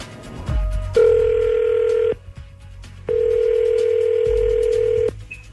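Two long, steady ringback tones of an outgoing phone call for a War of the Roses call, each about two seconds, separated by a short pause, heard clearly over a quiet line with no one talking.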